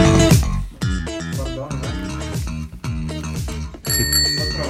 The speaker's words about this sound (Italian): Ecco il campanello. E il campanello ci dice che passiamo alla prossima notizia.